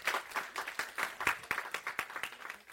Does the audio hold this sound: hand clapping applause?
yes